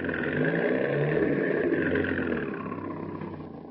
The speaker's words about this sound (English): here comes a Chrysler Coupe now, just rounding that corner